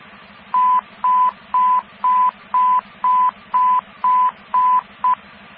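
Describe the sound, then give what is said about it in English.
Radio dispatch alert tones: a rapid, even series of about ten loud, identical high beeps over a steady hiss and hum of radio static, with no one talking. “Units, stand by for tones.”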